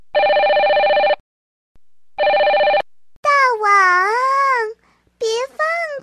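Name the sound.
mobile phone ringing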